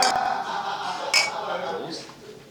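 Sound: glasses clinking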